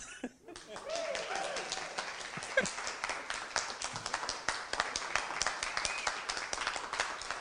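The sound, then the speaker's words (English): An audience of parents, siblings and friends claps steadily for several seconds after a song, a dense patter of many hands at moderate volume, with faint crowd murmur underneath. “okay to clap.”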